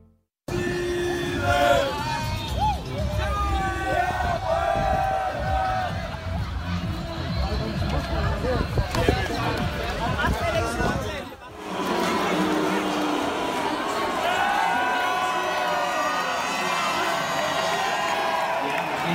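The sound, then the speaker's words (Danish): A large crowd of Danish football fans at a big-screen event outside and inside Sears Park in Aarhus, Denmark, watching Denmark's semi-final against England, cheers, whoops and shouts continuously, loud and dense, with a sudden cut partway through to a second burst of roaring, whistling crowd noise. “Sådan her lød det i aftes både udenfor og inden på Sears Park i Aarhus, hvor der var storskærmsarrangement med Danmarks semifinalkamp mod England.”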